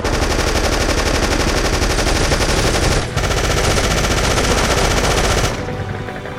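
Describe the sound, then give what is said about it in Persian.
Loud, sustained machine gun fire rattles in rapid continuous bursts, with a brief break near the middle before the dense firing resumes and then tapers off, as troops pour fire onto a DShK heavy machine gunner's position in combat. “خیلی خوب حرکت کنید، همه آتیش بریزن رو سر دوشکاچی.”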